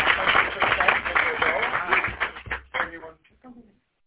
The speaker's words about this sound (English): Let's have a round of applause for Garden. Woo!